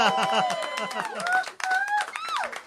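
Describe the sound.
An audience claps in a dense, steady burst of applause, with excited voices whooping and cheering over the clapping throughout.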